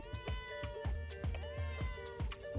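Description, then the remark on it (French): A cat meows repeatedly and insistently, wanting to come inside, about five or six loud cries in quick succession with no other sounds around. “Le chat qui veut entrer.”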